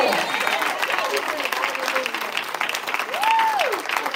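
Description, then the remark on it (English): A church audience claps for God during a sermon, steady, dense, sustained applause, with a voice rising in a sung or shouted tone over the clapping near the end. “If you believe He's faithful, just give Him, amen, a hand clap right there.”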